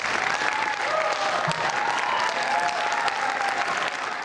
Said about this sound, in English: Friday afternoon, Yovanovitch left the hearing room to a round of applause.